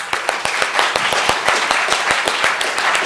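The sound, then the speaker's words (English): An audience claps steadily for the deaf team, applauding them 'hearing style', many hands producing a dense, bright wash of applause with sharper individual claps popping through at a quick, uneven rhythm. “First, we're going to applaud them hearing style.”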